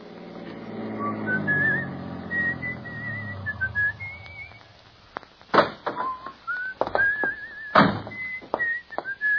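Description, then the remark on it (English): A man whistles a cheerful, wavering melody over a low rumbling background as he stops at a tavern on the outskirts of Smithville, followed by a few sharp thumps like a door or footsteps as the whistling continues. “In fact, he whistles a pleasant tune as, on the outskirts of Smithville, he stops at a tavern.”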